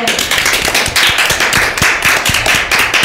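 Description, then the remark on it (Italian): Dense crowd applause in a Radio Dinamo segment, many hands clapping at once in a steady, loud wash of sharp overlapping claps that keeps up without pause for about three seconds, with no voices. “Fatevi un grande applauso.”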